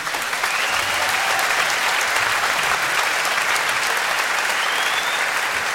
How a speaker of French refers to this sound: Et toujours avec le maestro que vous pouvez applaudir.